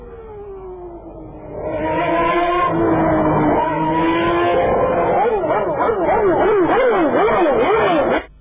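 A Ferrari Formula 1 car engine screams at high revs, its loud whine climbing steadily in pitch before wavering rapidly up and down through shifts and throttle changes, then cutting off abruptly.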